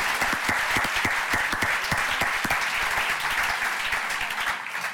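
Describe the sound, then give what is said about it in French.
A crowd applauds steadily for several seconds, dense overlapping claps forming a continuous roar that stays loud and even throughout, with no voices standing out. “Et puis, voilà, on pourrait encore une fois, je pense, faire un tonnerre d'applaudissements à nos poissons rouges.”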